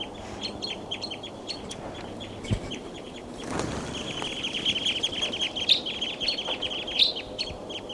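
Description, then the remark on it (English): A flock of seven perched birds calls continuously, a dense chatter of high, repeated chirps overlapping one another, with a few louder sharp calls standing out over a low background rumble. “The flock is still around here. They're all perched on top of. They're calling a lot.”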